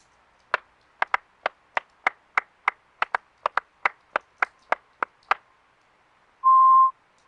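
Fijian rhythmic hand clapping (the sao sound), made by striking flat palms together with fingers held together, clapped in 1-4 timing: about eighteen sharp, crisp claps in a steady pattern with a few quick doubled beats, no voices, followed by a short steady beep tone.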